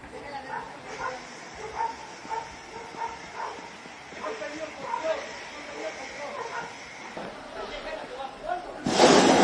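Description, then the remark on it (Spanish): During a hot air balloon flight on the show Planeta Calleja, after several seconds of agitated voices, the balloon's burner fires to try to climb, with a sudden loud, rushing roar of hissing flame that keeps going to the end. “Efectivamente, eso es el fuego del globo para intentar subir porque acabó el globo aerostático que traían.”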